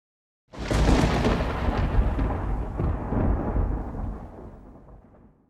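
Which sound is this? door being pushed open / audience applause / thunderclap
thunderclap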